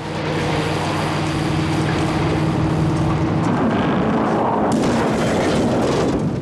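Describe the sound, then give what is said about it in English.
A loud car engine roars steadily, then gives way to rough, scraping noise as the car brakes, skids and spins round, ending in a heavy crash into a stationary vehicle followed by a burst of crunching impact. “The car puts its brakes on and spins round, then hits a stationary vehicle.”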